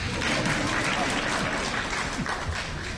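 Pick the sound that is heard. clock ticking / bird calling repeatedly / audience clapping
audience clapping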